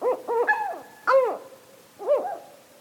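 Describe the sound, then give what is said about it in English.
A northern hawk owl calls with a quick run of rising-and-falling, harsh tonal notes, then two more separate screechy calls after short pauses, fairly loud with no voices. “Northern hawk owls hunt by sight in broad daylight.”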